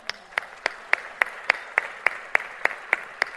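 Audience applause for the speaker's brother in a steady, even rhythm: about a dozen sharp, bright claps evenly spaced over a few seconds, with a faint wash of noise between them and no talking.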